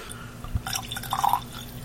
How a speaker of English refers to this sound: Now, when I was pouring it in from the large glass into the small whiskey glass, I tended to pour a lot in. Right, because a small drop out of a big glass is a big drop in a small glass.